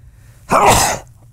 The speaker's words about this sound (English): Sneeze coming.